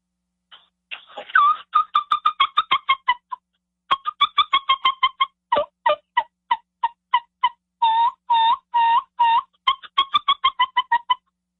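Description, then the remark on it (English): A brand-new turkey mouth call imitates hen sounds: quick runs of short, high, clear peeps in steady rhythm, broken by a few longer rolling purrs, then more rapid peeps, with no talking. “You're telling me they don't hear the peeps and the purrs and stuff like that.”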